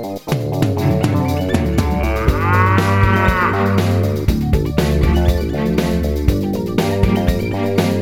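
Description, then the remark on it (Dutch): Several cows on a farm moo loudly, their long, drawn-out calls overlapping into a continuous chorus for several seconds with no one speaking. “Ja, dat, want het is wel, ik vind het ook een verbindende factor, die koeien.”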